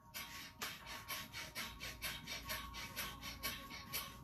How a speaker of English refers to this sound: Just do these breathing techniques first and then have your cup of coffee. Because Breath of Fire is like giving us a natural speed. So it's rapid breathing in and out through the nostrils like this.